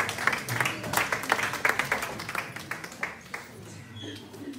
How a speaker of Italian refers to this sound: Questo era un applauso per l'Apostolo Paolo. Alleluia.